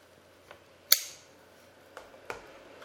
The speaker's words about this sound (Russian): А, зажигалка. Странно, почему-то она гаснет.